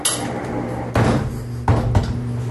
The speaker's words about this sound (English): So if you're wondering how this does open and close, it is a sliding door system.